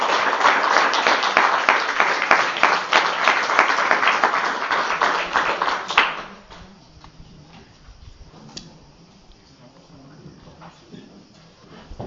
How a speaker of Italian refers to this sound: Mi dispiaceva far partire l'applauso per interrompere il silenzio assorto che c'era.